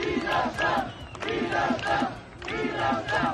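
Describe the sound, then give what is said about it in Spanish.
A large crowd of protesters in Vienna, Austria, chants for freedom against a severe lockdown, the shouted phrase repeating in a steady rhythm with loud, surging voices and a brief dip between each chant. “A grito de libertad recorrían la capital austríaca para protestar contra el confinamiento severo que empieza allí el lunes.”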